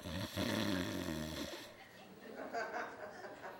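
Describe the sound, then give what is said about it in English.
A person imitates a loud snore with their voice, one long rumbling, nasal inhale lasting about a second and a half, followed by quieter murmuring and light laughter. “I don't know if snoring is a result of sin, so let's just say he's dozed off.”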